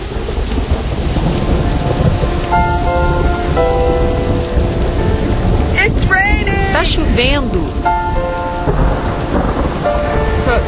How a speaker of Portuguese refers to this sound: Tempestade de novo. Relâmpagos, trovões. Chegamos em Nova Orleans.